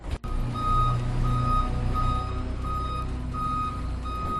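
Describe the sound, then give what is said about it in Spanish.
A construction truck's reversing alarm at the roadworks on San Andrés in central A Coruña, where the street is closed to traffic, sounds a steady series of high, evenly spaced beeps over a continuous low diesel engine rumble, with no voices. “Las máquinas a todo tren, ahora sí se puede decir que han comenzado las obras en San Andrés con el corte de tráfico de una de las principales vías de circulación del centro de A Coruña.”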